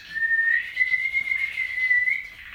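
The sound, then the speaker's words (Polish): A person whistles a thin, high birdlike call imitating a crested tit, a steady trilling line held for a couple of seconds with slight wavers, fairly quiet, with no talking. “Czubatka.”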